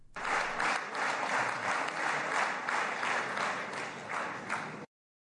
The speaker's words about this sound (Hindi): प्रधानमंत्री के भाषण पर इजरायली सांसदों ने कई अवसरों पर जोरदार तालियां बजाईं।